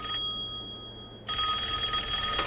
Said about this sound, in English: A week goes by, and then the phone begins to ring.